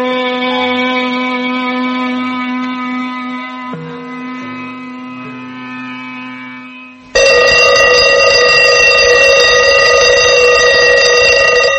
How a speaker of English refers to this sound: Big Ben is the kind alarm clock. If you don't want to wake up right away, it lets you sleep for a few more seconds. And here's another kind point. You can flip the alarm from loud to soft.